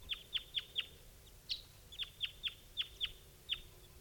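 bird calling

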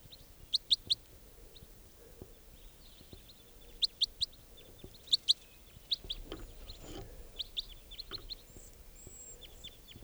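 juvenile bird calling

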